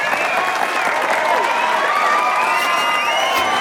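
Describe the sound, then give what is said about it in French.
A large audience applauds steadily and cheers for Tony Le Thon on the Late Show, with whoops and shouts rising over dense continuous clapping that stays loud throughout. “Faites un tonnerre d'applaudissements pour Tony Le Thon.”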